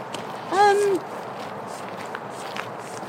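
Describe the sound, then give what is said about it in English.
A single harsh, gravelly call from a parakeet up overhead, one of a couple of parakeets, lasting about half a second, loud and rich in harmonics, rising slightly then holding steady, over a steady outdoor background with faint footsteps. “There is a parakeet, or just a couple of parakeets up there. It's very gravelly parakeet, if so.”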